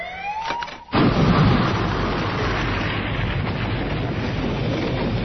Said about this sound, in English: The explosion lit the sky, tore a hole across the Triad fleet.